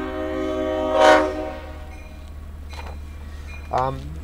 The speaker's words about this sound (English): Oh, the train's coming right in front of us. You might be able to hear the sound of the diesel there. Yeah, I'm sure you can hear that. That's a slow-moving train, about 3 miles an hour crossing the tracks.